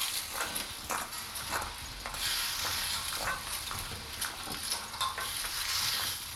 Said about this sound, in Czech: Bublající kaše.